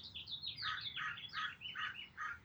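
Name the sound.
birds chirping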